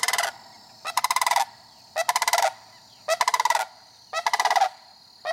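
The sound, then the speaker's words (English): A sandhill crane, the first of spring, calls in loud, rolling, rattling bursts as it flies over a house in southern Dane County, about five bursts, each roughly half a second long and coming about once a second, with short pauses between. No voices. “I heard and then saw the first sandhill crane of spring.”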